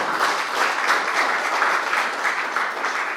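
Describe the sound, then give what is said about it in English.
An audience claps hands in sustained, dense applause, a steady crackling wash of many overlapping claps at even loudness with no speech over it. “Somebody clap your hands and give glory.”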